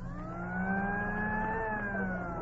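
A tractor engine on a mechanized American farm revs steadily and fairly loud, its low drone climbing slightly in pitch and then easing back, heard on its own with no voices.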